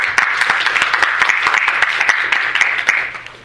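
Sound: audience round of applause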